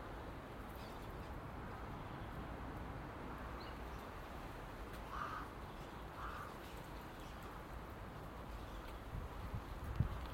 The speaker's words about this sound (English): It's the rain on there.